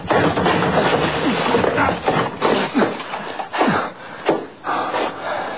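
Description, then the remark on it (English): A stuck wooden door is shouldered repeatedly to break it down: heavy, uneven thuds mixed with straining creaks and cracking wood over a continuous rough, grinding noise, with no voices. “Come on, we'll break it down.”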